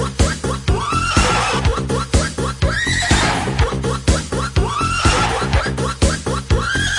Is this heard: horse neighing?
yes